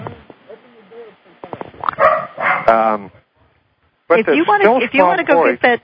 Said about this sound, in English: I hear your dog. That's Frank. He's acknowledging a presence at the door.